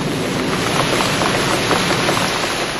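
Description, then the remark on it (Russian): Heavy rain pours down in a steady, dense hiss, with countless drops pattering on a surface. The downpour stays loud and unbroken throughout, with no voices. “Налетели тучи, разорвалось небо грозой и хлынул ливень.”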